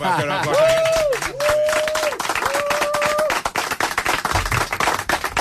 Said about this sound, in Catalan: Bueno, ara t'aplaudiran el... Ben tornat a casa.